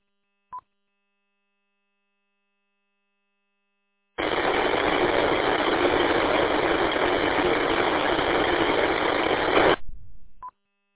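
The Saginaw Valley Amateur Radio Association repeater in Saginaw keys up: a short tone blip, silence, then about five seconds of steady, even static hiss with no voice, cut off abruptly, followed by another brief tone blip.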